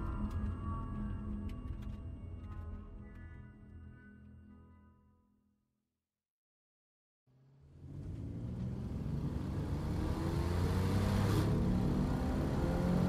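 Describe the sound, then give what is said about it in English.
A car engine hums and fades to silence, then a Corvette sports car engine roars back, revving loudly with rising pitch and a heavy rumble as it leaves a bridge. “10 minutes later, we left the bridge as Ebony revved the Corvette up, and we risked breaking the speed limit to put craziness as far behind as we could.”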